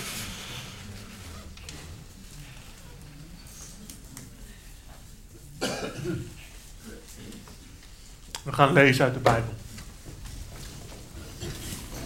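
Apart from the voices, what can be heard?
sniffling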